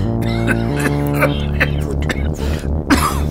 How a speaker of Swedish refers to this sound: Han ligger och hostar i sovrummet.